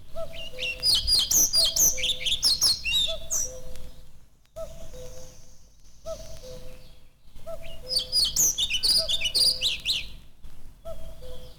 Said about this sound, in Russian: На заросших лесных сечах можно услышать протяжный свист дроздов белобровиков. После свистовой трели следует тихое, неразборчивое верещание.